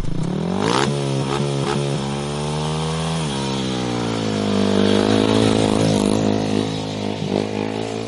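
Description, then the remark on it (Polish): A speedway motorcycle engine roars loudly on a Saturday morning at Rancho Diana, its pitch rising and falling with throttle blips before settling into a steady, rasping drone, with no voices. “No, tu mówimy, gdzieś marzymy o jeżdżeniu, o warkocie motocykli żużlowych, a właśnie w sobotnie przedpołudnie warczał motocykl żużlowy na Rancho Diana należącym do rodziny Pawlickich.”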